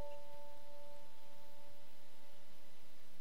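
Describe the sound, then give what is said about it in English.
Soft red and pink chimes of an unusual shape, made for Mars and Venus, ring out with a couple of sustained, shimmering tones that slowly fade, fairly quiet against a low background hum, with no one talking. “I love these chimes. They're really nice. They're red and pink for Mars and Venus.”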